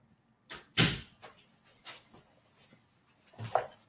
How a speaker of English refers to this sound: I just gotta close the door.